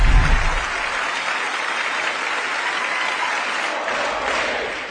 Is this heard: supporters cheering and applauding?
yes